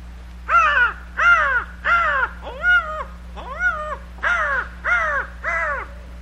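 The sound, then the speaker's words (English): A man's voice imitates a crow, giving eight harsh, rhythmic caws in steady succession, each a loud, raspy, arching call with a brief gap between them. “And I'll start out imitating birds and fowl.”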